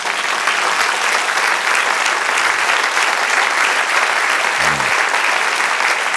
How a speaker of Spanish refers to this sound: Un aplauso al Señor.